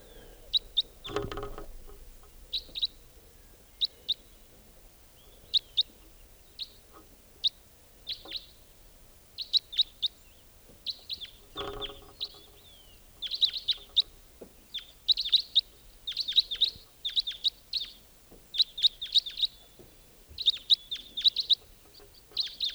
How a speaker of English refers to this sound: Wild white-winged crossbill there.